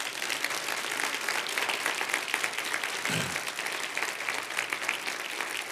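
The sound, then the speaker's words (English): An audience claps steadily, a dense, even wash of applause that holds at the same level throughout, with a brief low thump partway through. “Let's clap and welcome our internet audience.”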